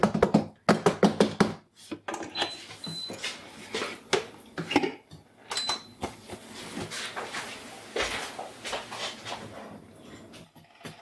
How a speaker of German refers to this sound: Ich bin zu schüchtern, was das Anbraten angeht. Kannst du nicht mit einem Metallding in eine beschichtete Pfanne? Aber es dampft schon. Der Sesam wird verprügelt.